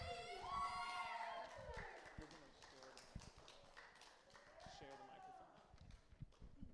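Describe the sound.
A crowd claps steadily, a dense patter of hands, with loud whoops and cheering voices rising over it at the start and again near the end, as an audience welcomes a speaker to the stage at a testimony night.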